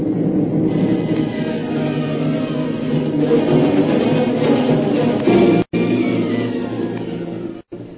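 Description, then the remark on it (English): A loud, steady roar of a raging typhoon, with deep rumbling and blustery wind noise filling the whole stretch, broken by two abrupt momentary cutouts near the end. “That's more than a storm blowing up, maybe. It looks like a typhoon.”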